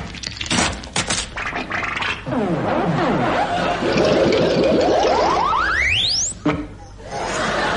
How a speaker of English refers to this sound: But eventually they got around to me, but unfortunately, the nearest they could get to a cockroach backing into a blancmange was a caterpillar going forwards into a table jelly. Perhaps you'd like to hear it. Listen.